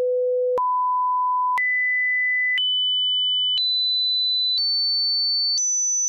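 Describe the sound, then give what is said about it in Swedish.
A hearing-test series of pure sine tones, seven steady beeps of about a second each, stepping higher in pitch one after another at a constant, clear level with no talking. “Han får lägga in några såna här pip.”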